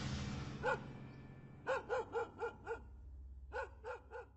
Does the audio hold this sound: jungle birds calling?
no